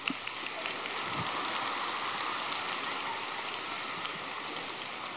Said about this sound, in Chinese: 是的，完全正确，鼓掌。